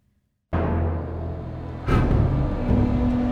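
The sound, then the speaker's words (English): Heavy dump truck engines rumble loudly and steadily on a beach in San Francisco after a brief silence, a deep low drone with a second engine surging in partway through, continuous; the trucks line up along the beach to be filled with sand by a machine with a huge scoop. “The dump trucks line up along the beach.”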